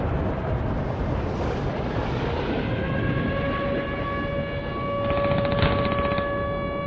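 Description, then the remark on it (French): A dense, rumbling battle-style soundscape as a helicopter arrives, its steady engine whine emerging over a continuous roar, with a faint choppy rotor pulse near the end. No one speaks. “C'est un long bout, un hélicoptère qui arrive sur les affaires de.”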